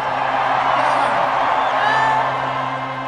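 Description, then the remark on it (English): A large stadium crowd at a Chicago baseball game cheers during the seventh-inning stretch as a singer prepares to lead Take Me Out to the Ball Game; a steady, dense roar with scattered whoops and yells rising above the loud, continuous wash of voices. “I want to hear a real, real crazy crowd start singing with me.”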